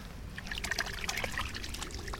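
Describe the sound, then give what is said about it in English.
A hand dabbles in the water of a holy well full of leaves, making a run of small, irregular splashes and trickling drips over a steady low background rumble, with no one speaking. “Should we touch the water?”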